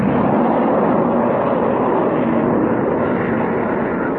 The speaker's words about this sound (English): And what's that? Sounds like a plane of some kind.